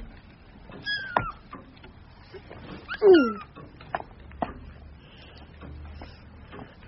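A cat called Kitty meows twice, a short call early on and a louder, drawn-out one a couple of seconds later, with soft rustling and light background noise between them and no talking.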